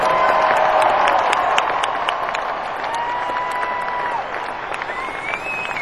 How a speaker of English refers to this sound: And there's probably about 120 other people, boys and girls, who do a fantastic job. So let's have a big round of applause for the best group in the world.